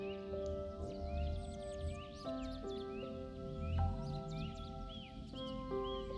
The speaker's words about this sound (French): Ou le chant doux de ces oiseaux.